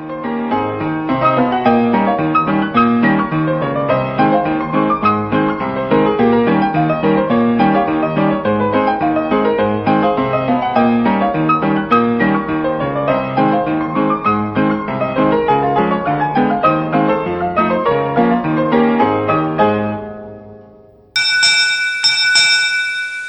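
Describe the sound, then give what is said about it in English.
A public domain recording of the ragtime tune Frog Legs Rag, with bright, chiming tones bouncing along in a steady syncopated rhythm for about twenty seconds, then a brief pause and a short, high ringing sound at the end. “And we close with another 20 seconds of that music.”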